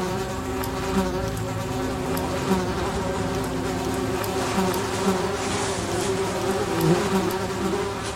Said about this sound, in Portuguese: Várias moscas encheram a terra do Egito. As moscas estavam em todo lugar, nas casas, nos servos de Faraó. Diz a palavra do Senhor que havia enxame de moscas.